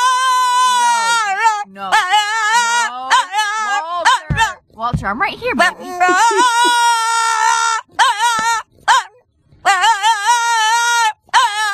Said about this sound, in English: a Boston Terrier. Could be in the mix. He's a great singing dog.